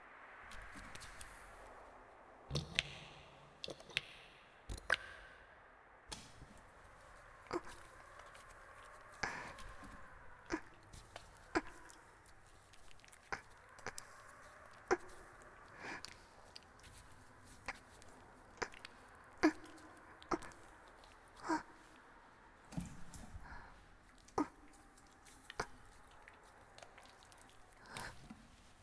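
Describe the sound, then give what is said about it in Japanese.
Wet, squishy lathering of soap into foam over a person's whole body, fairly quiet, with irregular sticky clicks and squelches repeating steadily throughout, no voices. “はい、それではまず、私の体全体に石鹸を泡立てますね。”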